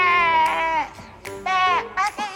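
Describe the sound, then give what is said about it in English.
A person's voice imitates a sheep's bleat, producing a few wavering, nasal baa-like cries in quick succession, fairly loud. “I don't know how to make the noise, but you know what I'm trying to say.”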